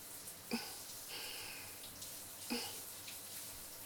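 household object, shower water running

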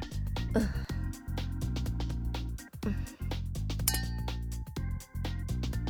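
household object, glasses clinking

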